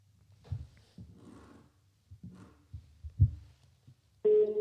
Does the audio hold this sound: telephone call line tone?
yes